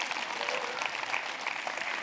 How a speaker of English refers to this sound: Oh, I should have had a better clap. I'm not clapping for this weird preacher.